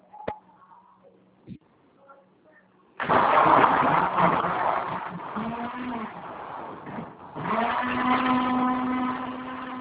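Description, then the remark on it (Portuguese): A kitchen blender is switched on for just a short while: after a few soft clicks and quiet background sounds it roars to life, whirring loudly and steadily, briefly dipping then surging again with a rising whine near the end. “vou ligar só um pouquinho o liquidificador.”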